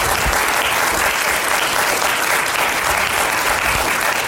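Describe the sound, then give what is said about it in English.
Loud, steady applause from an audience at a session of the URJ Biennial, given in thanks to the session's participants, dense clapping sustained evenly throughout with no voices standing out. “I want to appreciate you, and we have people in there, so for those of you who are listening, please extend your thanks with a round of applause for these people.”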